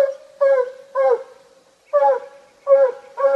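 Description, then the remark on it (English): A hunting dog barks five times in loud, drawn-out, harmonic bays at an uneven pace, with a thin steady whine holding underneath between the barks, barking up a tree at a raccoon it has chased there. No one speaks. “Meaning he's chased a raccoon up a tree and is barking up after it.”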